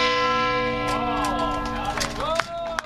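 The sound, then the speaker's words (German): A large bell, the 2.5-tonne Sunday bell of Magdeburg Cathedral, Germany, cast in 1575, rings with a deep, sustained hum of overlapping tones. Indistinct voices murmur faintly underneath, and two sharper strikes stand out near the end. “Die Dominica, die 2,5 Tonnen schwere Sonntagsglocke des Magdeburger Domes, wurde gestern Nachmittag in rund 40 Meter Höhe aus dem Nordturm herausgehoben und ist sanft auf einen LKW herabgeschwebt.”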